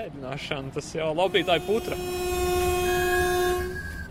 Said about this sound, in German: Nach dem kurzen Abenteuerausflug fährt der Zug wieder zum Bahnhof Gulbene.